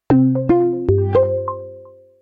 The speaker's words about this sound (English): Joel, you compose sounds for Roomba, for the Roomba vacuum. Let's hear a couple of those. This is called Mission Start.